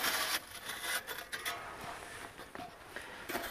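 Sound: hand saw cutting wood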